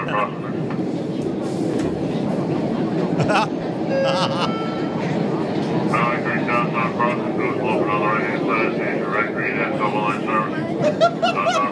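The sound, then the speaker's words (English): Loud, continuous rumble and rattle of a Boston MTA Red Line subway car in motion, with brief metallic squeals and clanks, while passengers chatter indistinctly in the background. “was in Boston riding the red line of the MTA.”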